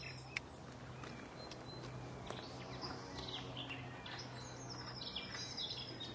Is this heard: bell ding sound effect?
no